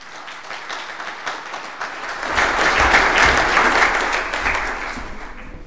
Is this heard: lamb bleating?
no